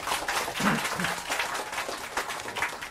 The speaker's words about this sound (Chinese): 请以掌声欢迎